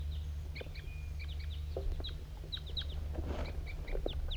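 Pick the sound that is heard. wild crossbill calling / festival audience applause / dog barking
wild crossbill calling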